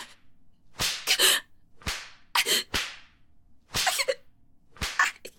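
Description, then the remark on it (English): A long leather whip lashes about nine times in an uneven rhythm, each sharp, loud crack trailing a brief swish, some strikes landing in quick pairs, with no voices. “Take that long, beautiful leather whip you're holding and slash my ass cheeks.”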